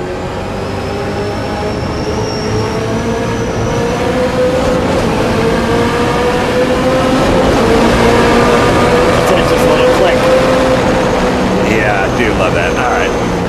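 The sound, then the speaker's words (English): A race car engine roars loudly and steadily, its pitch climbing gradually as it accelerates through the gears, shifted with a sequential lever and a clutch, over a dense, constant mechanical rumble. “You have the like 3 seconds of how that car shifts is what I was basically saying.”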